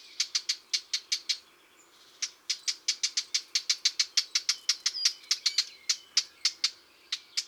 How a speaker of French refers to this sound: La fauvette à tête noire lance aussi de longues séries de tac-tac-tac qui ressemblent au bruit de petits cailloux frappés l'un contre l'autre.